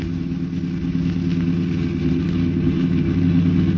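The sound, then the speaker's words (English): A car engine drones loudly and steadily, a deep rumbling hum that holds constant for a few seconds with no voices over it, as the car pulls up alongside another car to force it to the curb. “Well, pull up alongside and force him to the curb.”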